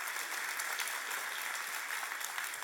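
A crowd claps steadily after a story of a woman's cancer being found gone, a dense wash of many hands applauding at an even level throughout, with no voices rising above it.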